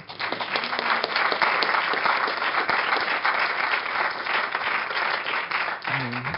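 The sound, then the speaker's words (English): Steady, sustained applause from an audience thanking a discussion panel after a talk, a dense wash of many hands clapping at an even loudness throughout, with a brief murmur of voices rising near the end. “you stole my applause line”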